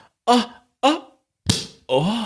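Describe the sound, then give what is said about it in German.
A bottle of Sekt sparkling wine pops its cork once with a sharp, hollow burst, set among several short voiced exclamations that come before and after it. “Kann ich das jetzt poppen lassen?”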